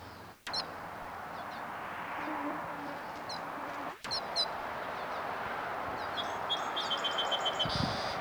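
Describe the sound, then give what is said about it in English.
Wild birds call overhead in short, high chirps and twittering bursts that come in scattered clusters over a steady, loud hiss of background noise, with two brief dropouts along the way. “Wild birds overhead.”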